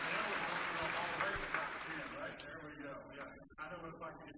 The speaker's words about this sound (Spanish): Los de UMHB, los Crusaders, estamos agradecidos por todo lo que han hecho. Así que denle un fuerte aplauso al equipo de la UMHB de fútbol.